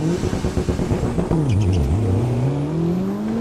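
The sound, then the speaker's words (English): Drag racing car engines rev loudly in sharp bursts as the cars spin their tires to warm up at the starting line of an eighth-mile drag strip, the Barona Drag Strip, then one roars off with a rising, sustained whine as the car launches and accelerates hard. “Two at a time, they nudge up to the starting line at the 8th mile track, spinning their tires to get warmed up.”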